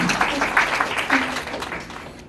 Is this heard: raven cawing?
no